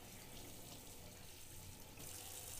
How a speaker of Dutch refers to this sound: Kip schoon. Gewoon even door het water.